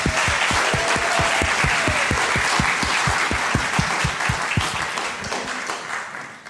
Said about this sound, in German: Also vielleicht einmal einen Applaus für unsere Täuflinge, dass ihr heute seid.